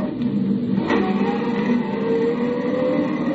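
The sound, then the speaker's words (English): A car engine roars steadily with the gas pedal jammed to the floor, a dense, rumbling drone with a faint rising whine as it accelerates, staying loud and constant throughout with no voices. “With every jolt of the car, another Roman candle went off in my head, but I kept the gas pedal jammed to the floor until I saw the turnoff sign for the Austin mine.”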